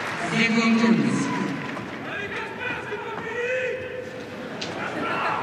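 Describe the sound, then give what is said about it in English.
A large tennis crowd cheers and shouts after a single point of a match, in a broad, sustained roar that holds at a steady, fairly loud level for several seconds, with scattered individual voices rising out of the din. “Well, the crowd already starting to try and get involved.”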